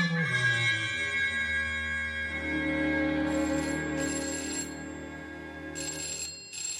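A telephone bell rings steadily and loudly for several seconds, its bright metallic tone sustained with a low hum beneath, with no voices present.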